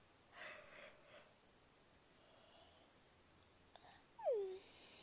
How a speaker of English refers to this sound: That was a big yawn.